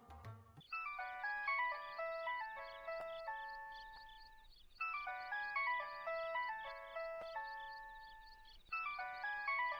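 A mobile phone ringtone plays a bright, chiming melody of rapid high-pitched notes, repeating in loops roughly every four seconds at a steady, moderately loud level with no voices.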